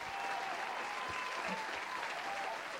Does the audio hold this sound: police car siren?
no